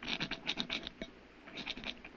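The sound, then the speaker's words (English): A rock grates against a lead door in a series of quick, rasping scratches as something is scratched onto the outside of the door, bursts of gritty noise repeating irregularly with no one talking. “I want to scratch something on the outside of this lead door.”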